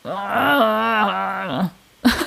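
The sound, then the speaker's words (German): A person lets out a long, exaggerated, wavering groan, followed after a short pause by a brief second grunt, like a voice imitating bears in a fight. “So Bären im Kampf.”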